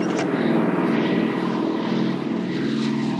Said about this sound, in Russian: Колонну грузовиков атакуют немецкие самолеты.